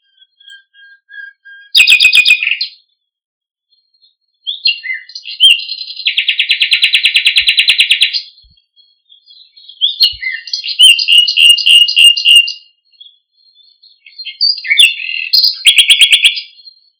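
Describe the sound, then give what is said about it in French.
A nightingale sings loudly in separate phrases, mixing sharp whistles, rapid buzzing trills and fast repeated notes, with short pauses between bursts. No voices. “Nous allons écouter le rossignol pour le comparer à la huppe.”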